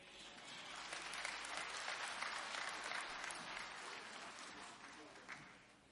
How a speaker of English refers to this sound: Let's give the Lord another hand clap for our pastor.